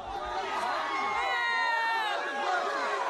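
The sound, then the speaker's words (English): A crowd of young student protesters at the University of California, Davis shouting and yelling over one another as police pepper spray them, loud and chaotic, with overlapping high-pitched cries and chants sustained throughout. “That, of course, is the footage from UC Davis of student protesters being pepper sprayed by police.”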